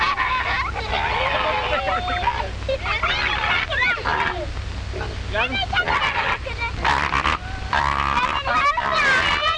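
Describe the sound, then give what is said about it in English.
A crowd of farm ducks quacking loudly and nonstop, many raspy calls overlapping, with a steady low rumble underneath. “Farm ducks need to have their wings clipped.”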